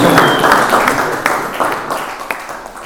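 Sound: audience applause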